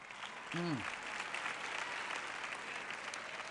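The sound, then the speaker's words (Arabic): Sustained applause from an audience clapping for the people who made a house, a dense steady patter of many hands clapping throughout, with a brief voice-like tone near the start. “هذا المنزل جميل، هيا صفقوا لهم.”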